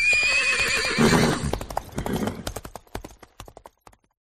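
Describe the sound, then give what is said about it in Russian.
A horse lets out a loud, wavering whinny, then hooves clip-clop in a quick, steady rhythm that gradually fades before cutting off. “Была лошадка белою, а стала в пятнах бегаю.”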